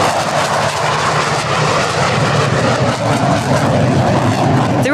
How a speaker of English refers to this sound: mistaking the sound of the F/A-18 Super Hornet. The roar of that engine travels across Seattle's perfectly blue skies, screaming loud and clear that the Blue Angels are here.